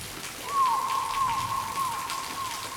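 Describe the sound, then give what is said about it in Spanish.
Steady rain falls and patters on a surface, with scattered drops ticking through a soft continuous hiss. A thin sustained tone hums faintly behind it, and no one speaks. “The thunder god poured rain from the Milky Way.”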